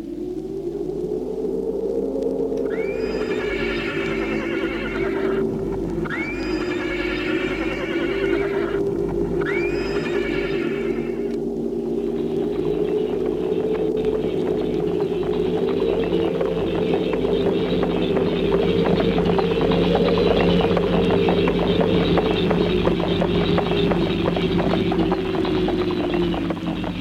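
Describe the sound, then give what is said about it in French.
A horse whinnies three times in quick succession, then steady galloping hooves take over as the riders set off at a gallop, rumbling continuously for the rest of the stretch, with no voices. “Et ils sont partis au galop.”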